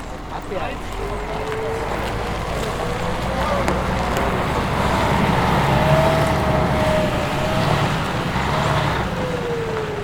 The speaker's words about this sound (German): Dann ist es soweit. Der erste Bus erreicht sein Ziel. Bus Nummer 13.